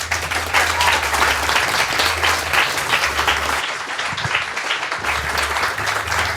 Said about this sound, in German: Dann bitte Applaus für unsere Gesprächsrunde.